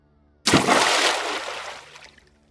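A body falls into water with a sudden loud crash, followed by violent thrashing as the water churns and sloshes for over a second before fading away. No voices.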